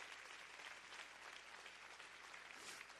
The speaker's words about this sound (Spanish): Si va a dar un aplauso al Señor, déselo fuerte, déselo fuerte.